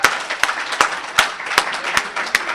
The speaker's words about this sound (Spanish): Un aplauso para los dos oradores, por favor.